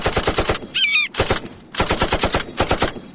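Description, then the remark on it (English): Rapid bursts of gunfire, fired at an eagle, crackle in fast, evenly spaced volleys, broken by a brief high warbling screech and a short pause before the shooting resumes. No one speaks. “Let's shoot the eagle.”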